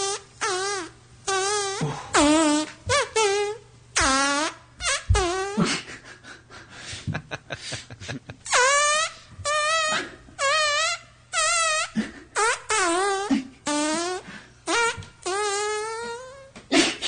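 A fart musician performs on the Kevin and Bean Show: a steady run of loud, pitched fart-like notes, some short and some long and wobbling, strung together like a melody over a low hum, with no talking.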